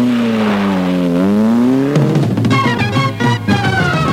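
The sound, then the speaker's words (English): A car engine revs loudly, its pitch dropping and climbing, then roars as the car pulls away and accelerates off, giving a lift to Junk and Disorderly on West Street in Pembridge. No one speaks. “I'm getting in your car, sir. You can give me a lift round there.”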